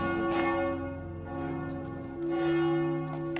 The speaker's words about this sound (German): Während der ganzen Zeit, die wir im Café sitzen, hört die Glocke der Kirche nicht auf zu läuten, woraufhin mehrere Leute kommen, um sich zu beschweren.